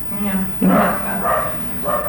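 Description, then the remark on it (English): A ratty dog in the backyard barks several times in quick, uneven bursts, loud, with a strong harmonic yelp at the start and short follow-up barks trailing off. “Shut up, dog. That's the ratty dog in the backyard.”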